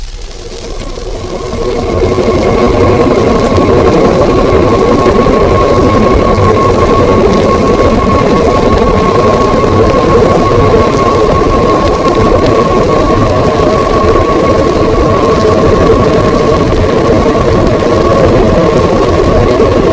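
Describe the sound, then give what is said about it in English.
A submarine propeller churns with a periodic splashing over a loud, steady whirring hum and a faint sustained tone. The noise swells in over the first couple of seconds, then holds constant, with no voices. “Partway through the example, a definite periodic splashing noise from the propeller action becomes apparent.”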